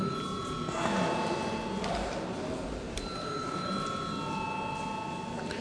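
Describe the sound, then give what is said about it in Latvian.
A parliament chamber's steady electric bell rings continuously for several seconds before deputies vote on a bill in its third reading, a bright sustained tone with shifting overtones above a busy background murmur, with no clear speech over it. “Paldies, lūdzu zvanu.”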